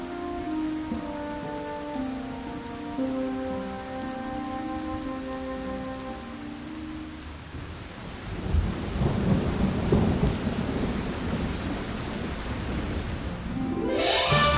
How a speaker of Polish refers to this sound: No pewnie. Krople deszczu uderzają już w liście na czubkach drzew. Za chwilę dolecą i do nas.